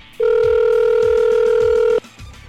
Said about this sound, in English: Let's ring the telephone down in Florida, see if we can wake him up.